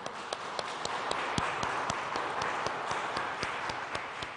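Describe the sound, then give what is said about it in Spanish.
An audience at a Mass applauds the Virgin Mary, a dense wash of many hands clapping at an even level, with some sharper individual claps standing out at a fairly regular rhythm throughout. “y un fuerte aplauso a nuestra Madre del Cielo.”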